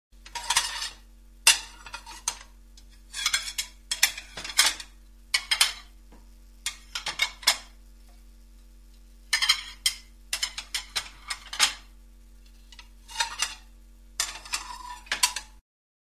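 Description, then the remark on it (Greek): Plates clink and clatter in a series of sharp, irregular bursts, fairly loud, like dishes being stacked or handled, with a faint steady hum underneath and no talking. “Πιάτα.”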